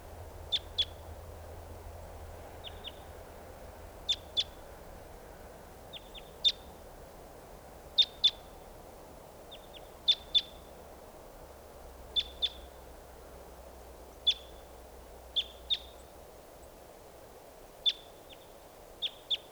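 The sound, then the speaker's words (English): A lone wild female bird that has just flown over a net site gives short, high-pitched chips, often in quick pairs, repeated at irregular intervals over a steady low background hiss, with no voices. “Here's a wild bird.”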